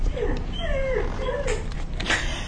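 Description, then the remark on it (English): A dog whimpers in a series of thin, high whines that slide downward, several short cries close together over a steady background hiss, with a sharper yelp near the end. “That sound? I to be honest, I'm not much of a dog person.”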